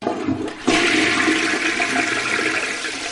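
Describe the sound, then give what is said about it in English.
A toilet flushes, a sudden loud rush of water that starts after a brief quiet moment and keeps roaring steadily with a hissing, gurgling wash. “Mais tout d'abord, il est l'heure de faire un petit tour au petit coin joie.”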